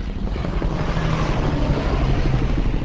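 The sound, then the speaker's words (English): A T-65 twin-engine crop-spraying airplane roars overhead in Colombia, leaving a white cloud of herbicides to settle on a coca field below; its loud, steady propeller drone fills the whole three seconds with a dense, buzzing rumble and no voices. “With helicopter crews keeping an eye out for dangerous drug runners, a T-65 twin-engine airplane zooms overhead, leaving a white cloud of herbicides to settle on the coca field below.”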